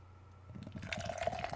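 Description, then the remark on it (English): A beer, an Oscar Blues Mama's Little Yellow Pills, is poured into a glass in a stunt pour, beginning after a brief pause with a gurgling splash whose pitch rises steadily as the glass fills. No one speaks. “Stunt pour.”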